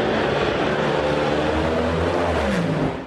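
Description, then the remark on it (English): A funny car drag racer's roaring, high-powered engine blasts at full volume as it goes down the track, its pitch climbing steadily as the car accelerates hard, then the noise starts to fade at the very end. “That looked like a fast, funny car, and it was one of yours.”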